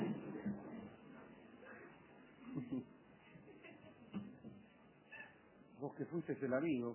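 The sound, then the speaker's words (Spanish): A cat meows several times in quick succession near the end, clear, after a stretch of low background murmur and indistinct voices. “Una porquería ese gato.”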